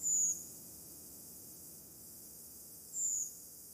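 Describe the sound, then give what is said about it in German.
Two thin, very high-pitched drawn-out calls of a redwing in flight in the night sky, about three seconds apart, against a quiet, faintly rumbling background. “Dieser hohe Ruf am Nachthimmel, also das ist der, ich gehe von der Party abends nach Hause, Vogel, den ihr dann fast immer im Oktober und November hören könnt.”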